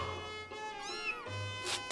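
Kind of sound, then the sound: animal, cat meowing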